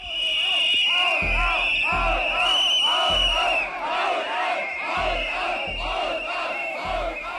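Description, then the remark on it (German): Several hundred people boo and jeer Chancellor Angela Merkel and President Joachim Gauck in the morning at the German Unity Day celebration in Dresden, with a sustained shrill whistle piercing over the shouting and rhythmic low thumps or chanting pulses recurring throughout. “Mehrere hundert Menschen haben Bundeskanzlerin Angela Merkel und Bundespräsident Joachim Gauck am Vormittag ausgepfiffen und angepöbelt.”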